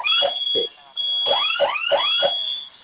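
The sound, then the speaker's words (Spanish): A home security alarm blares, a loud electronic tone repeating in quick rising sweeps with a brief pause near the start before the pattern resumes, while a user presses both fire buttons on the keypad and enters a code; it is expected to stop in about 10 seconds. “¿Se silenció la primera alarma? Sí, la primera sí.”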